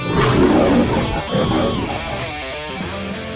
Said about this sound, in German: Der Löwe hat gebrüllt, deswegen müssen auch wir brüllen.